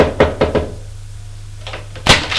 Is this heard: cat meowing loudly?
no